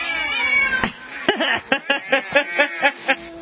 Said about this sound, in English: Oh, those cats are terrible.